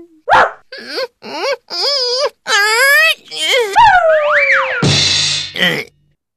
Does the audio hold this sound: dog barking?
yes